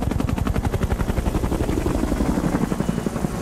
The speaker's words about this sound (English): Does it have a helicopter? There is a helicopter. Our helicopter weighs 3.5 tonnes. It's only 3% smaller than an actual helicopter and flies a height of 2 double-decker buses on stage.